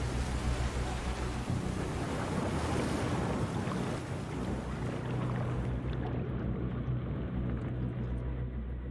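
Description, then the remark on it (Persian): Rough ocean surf churns loudly and continuously, a dense roar of crashing waves mixed with buffeting wind noise on the microphone, with no voices; one of the roughest, most frightening places on Earth to swim, with water temperatures dropping to 8 or 9 °C. “اونجا برای شنا کردن یکی از پرتلاطم‌ترین و ترسناک‌ترین مکان‌های کره زمین.”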